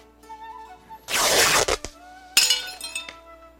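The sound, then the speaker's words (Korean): Two loud crashes of expensive dishes being smashed at a king's court, each a sharp burst followed by clinking, ringing fragments. A quiet tonal musical bed plays underneath, with no voices. “말희의 말 한마디에 매일 값비싼 비단들이 찢겨 나가고 옷그릇들이 깨져 나갔습니다.”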